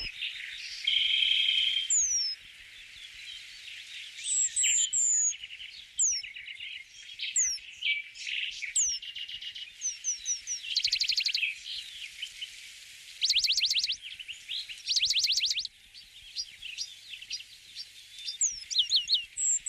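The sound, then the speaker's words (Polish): A lively chorus of birds singing, with overlapping chirps, whistles and rapid trills coming thick and fast, bright, with no voices present. “rodzice znajdą czas, żeby pójść z wami posłuchać śpiewu ptaków.”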